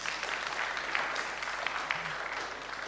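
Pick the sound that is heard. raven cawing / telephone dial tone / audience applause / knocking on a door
audience applause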